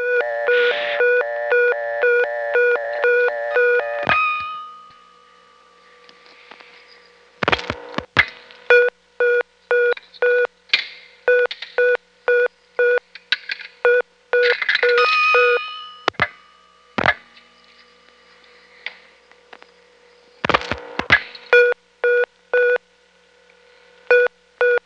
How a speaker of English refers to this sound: as indicated by the 4 beeps we'll get after the coin return